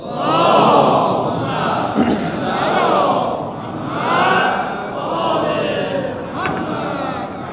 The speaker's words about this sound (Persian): من فکر کنم یه صلوات بلند باید جیغ بکشید.